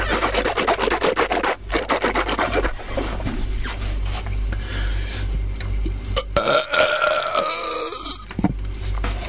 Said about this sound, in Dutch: laat dan maar even zelf een boer